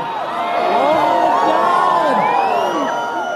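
A crowd of a couple hundred people erupts in excited cheering at solar eclipse totality as they take off their eclipse glasses and look into the sky. Many overlapping whoops and rising, falling shouts are sustained loudly throughout, with some high-pitched voices squealing above the roar.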